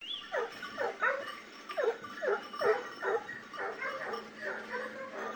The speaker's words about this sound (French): Mais tout d'un coup, les chiens cessèrent d'aboyer et se groupèrent silencieux autour de Rosalie.